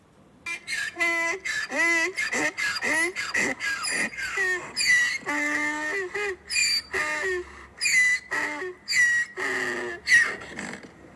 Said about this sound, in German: So klingt es bei mir im Garten. Also meine Esel klingen so.